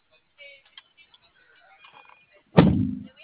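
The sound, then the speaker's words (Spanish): A single heavy door thunks shut near the end, a sharp, loud impact with a low, booming body that fades quickly, following a stretch of faint, indistinct background sounds. “¿La otra puerta?”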